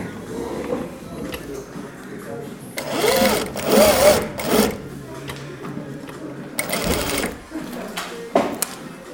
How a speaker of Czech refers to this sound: Toto je obyčejný šicí stroj? Ano, to je obyčejný šicí stroj a přišíváme zipy na vesty pro zdravotníky. Vesty pro zdravotníky. Budeme slyšet, jak ten stroj šije? Budeme slyšet.